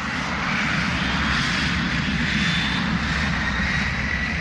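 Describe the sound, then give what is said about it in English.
The engines of a Boeing jet airliner in Aer Lingus service roar steadily and loudly throughout, a dense, unbroken rushing drone with a deep rumble underneath and a faint high whine, with no voices. “First, the Boeing 720 appeared in Irish colours, then the gas-guzzling 707, and finally, the more economical 747s or jumbo jets.”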